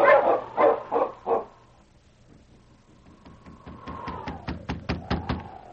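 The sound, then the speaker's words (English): Sled huskies, urged to set off, give four loud, quick barks in a row, followed by a quieter stretch of wavering whine and a rapid series of sharp, rhythmic yips building toward the end. “On, your huskies!”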